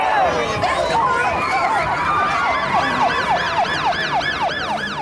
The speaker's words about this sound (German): müssen wir gerade Platz machen, weil hier ein Krankenwagen vorbeikommt.